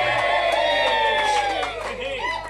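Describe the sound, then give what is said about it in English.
A crowd cheers and shouts loudly for a couple of seconds, many voices overlapping in a steady, high-pitched roar that dips slightly near the end. “And if anything, you know, if the crowd says it, it must be true.”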